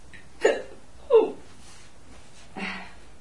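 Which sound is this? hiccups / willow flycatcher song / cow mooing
hiccups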